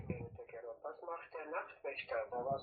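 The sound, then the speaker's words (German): A smartphone suddenly talks aloud: a thin, tinny voice from a small speaker, speaking continuously for a few seconds at moderate volume. “Jetzt fängt das Handy plötzlich an zu reden.”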